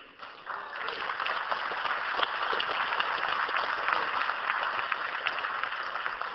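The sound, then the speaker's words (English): A crowd applauds steadily for several seconds in the chamber of the Georgia General Assembly, a dense wash of many hands clapping at once that holds at an even, fairly loud level from start to finish, with no voices. “Once again, I noticed some were not applauding.”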